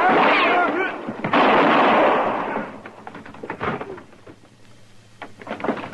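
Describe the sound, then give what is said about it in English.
Two loud, booming gunshots a second apart, each ringing out with a long rumbling tail, followed by scattered fainter knocks and clatter. “No, Marshal, he's got a gun under that blanket.”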